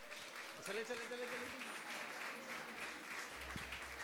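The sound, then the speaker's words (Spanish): A crowd claps steadily for about four seconds, a dense wash of hand claps with a few voices and cheers mixed in underneath. “¡Fuerte el aplauso!”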